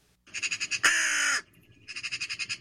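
A raven gives one loud, harsh, drawn-out caw. Bursts of quick, rhythmic pulsing sounds come just before and just after it.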